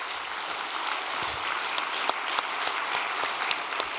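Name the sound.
audience applause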